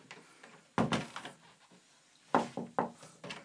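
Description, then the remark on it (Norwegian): A door to a back room is pulled shut, with a heavy thud followed by a cluster of wooden knocks and rattles as it settles closed. No one speaks. “Så lokker vi igjen den døra, så sier vi bye bye.”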